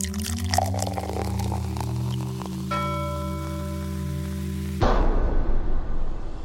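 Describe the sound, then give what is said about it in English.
Liquor pours out over a steady droning hum with faint ringing tones, then about two thirds through it turns into a louder, continuous splashing rush of liquid hitting a surface. No one speaks. “This goes out to all our fallen homies, yo. Blood low liquor.”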